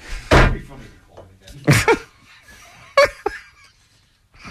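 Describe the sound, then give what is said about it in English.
A studio door bangs open with a loud thud right at the start, followed by a couple of brief vocal outbursts and rustling as people react. “You just busted open the studio door and go, who's doing a sports minutes?”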